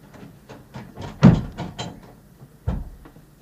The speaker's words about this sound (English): Shut the door, then. That's what you usually do, isn't it? I'll go and bolt the door now.